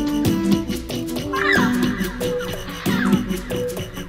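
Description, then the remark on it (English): A sampled bird song used in electronic music: processed bird calls, harsh and crow-like with rising chirps, repeat in a looping pattern over sustained low musical tones, with no voices present. “So you can take a sample of a bird song and do 5 million things to it.”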